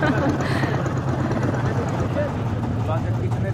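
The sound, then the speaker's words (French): A boat engine churns loudly and steadily as the boat, stuck in the sand of a shallow sandbank, reverses; a low throbbing drone with a rough, watery texture that never lets up. A voice murmurs faintly beneath the noise. “Et tout le monde a un peu tangué et maintenant on fait marche arrière.”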